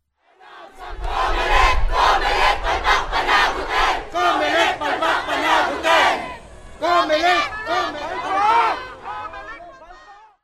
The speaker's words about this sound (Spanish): Ha habido gente que ha salido a las calles a protestar. En Manila, la capital, centenares de personas gritaron «Fraude Comelec», en referencia a la Comisión Electoral de Filipinas.